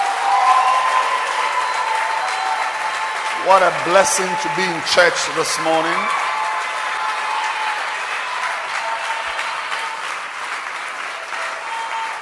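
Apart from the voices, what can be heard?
audience clapping hands loudly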